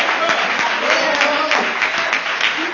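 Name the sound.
audience clapping hands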